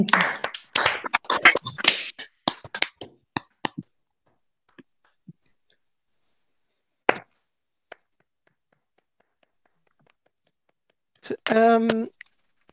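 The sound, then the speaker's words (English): A burst of scattered clapping and cheering from several open microphones at a conference, applauding the local Girona organizing team, loud for about two seconds, then thinning into isolated claps and clicks before a short vocal sound near the end. “So I would like you all to open your microphone and to give a real, real big applause for the whole local Girona team of how wonderful they've organized this whole conference.”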